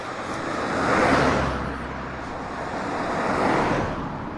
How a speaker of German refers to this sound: Oh, hier kommen 2 Autos. Moment, hier wird es gerade interessant.